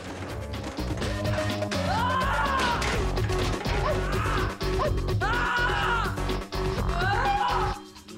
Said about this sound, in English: Duff starts throwing a selection of chairs at the window